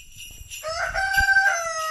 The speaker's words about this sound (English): Just coming up to the front door and there's a rooster and there's geese and it's all very festive here.